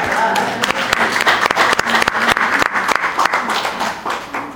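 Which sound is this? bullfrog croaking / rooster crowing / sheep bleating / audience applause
audience applause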